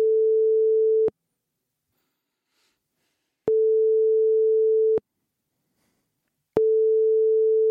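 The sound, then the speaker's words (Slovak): A telephone busy signal heard while calling the number in a classified ad: a steady, low-pitched electronic tone sounds in three long pulses separated by roughly two-second gaps of silence, with no voices present. “Tak čo, voláme? Hej, skús.”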